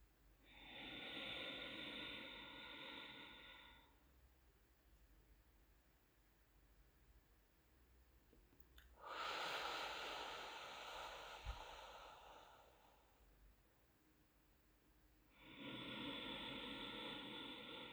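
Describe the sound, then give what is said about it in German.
Three long, forceful breaths huffed out through the nose as a demonstrated breathing exercise, loud, each a rushing hiss lasting a few seconds, separated by quiet pauses; no one speaks. “Ich mache es zweimal vor und dann beim dritten Mal darfst du dann auch einsteigen in das Schnaufen hinein.”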